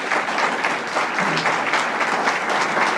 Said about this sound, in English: Let's give a special round of applause to Marilyn Simons.